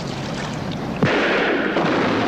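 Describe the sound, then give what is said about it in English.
A ship's gun booms once, sharp, over a steady rushing background, and a heavy crashing roar follows as the gunfire fells a schooner's mast, the crash rumbling on to the end. “They look back as a mast is felled by the Macedonia's gunfire.”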